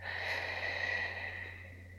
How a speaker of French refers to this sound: Prenez maintenant une profonde inspiration par le nez en gonflant bien le ventre et la poitrine. Expirez doucement par la bouche.